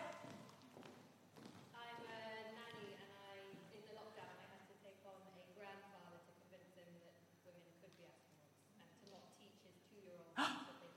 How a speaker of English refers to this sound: Okay, so if you didn't hear that up the back, yes, oh, there was some gasping down the front.